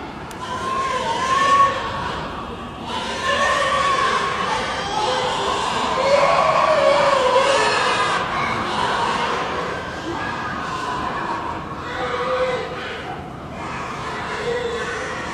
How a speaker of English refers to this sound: We've just listened to a recording taken in a pig slaughterhouse.